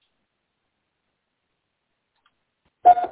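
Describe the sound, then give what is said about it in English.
After nearly three seconds of silence, a single bell rings out with a bright, tonal strike, then begins to fade and is cut off almost immediately. No one speaks. “Now, that bell sound, that's our bell.”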